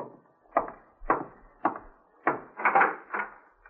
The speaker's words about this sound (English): I'm getting cleaned up before going out to meet my FBI contact, but I'm interrupted by a knock at the door.